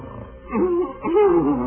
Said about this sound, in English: What's the matter? It's that horrible snoring. Must be that fat guy next door.